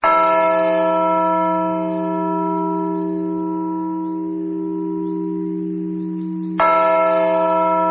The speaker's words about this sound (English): That's the Normandy Liberty Bell, tuned to the exact same E-flat note as the original.